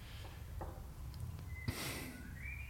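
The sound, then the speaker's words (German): A bird sings faintly somewhere outside, giving a few thin, high whistled notes in the second half, with a soft rustling burst and low background hum and no one talking. “obwohl das Vogel da draußen.”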